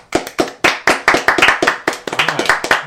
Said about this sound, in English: Guys, round of applause for